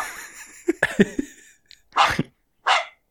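A dog in the room gives a run of short, sharp yips, then two loud, rough barks about a second apart, with no one talking.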